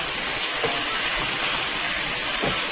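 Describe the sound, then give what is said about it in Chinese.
Celery stir-fried with squid in a hot wok with boiling water added, cooking until slightly softened; a loud, steady hiss of frying and crackling that holds evenly for the whole stretch, with no voices over it. “好，这时候要用滚的这个开水，啊，下去把这个芹菜稍微炒软一点。”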